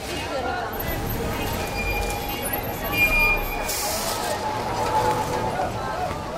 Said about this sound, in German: Die Großmarkthallen in Stuttgart. Jeden Tag werden hier mehr als 1000 Tonnen Obst und Gemüse umgeschlagen. Das meiste morgens, ehe die Geschäfte öffnen.